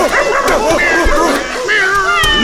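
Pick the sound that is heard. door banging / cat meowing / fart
cat meowing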